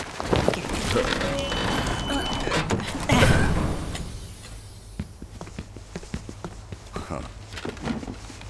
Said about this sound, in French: Tenez. Aidez-moi à soulever cette porte.